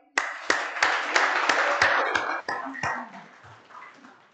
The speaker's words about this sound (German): Wenn er reinkommt, gebe den Applaus. Jetzt.